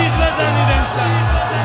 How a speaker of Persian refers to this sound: خانوما میخوام شما جیغ بزنید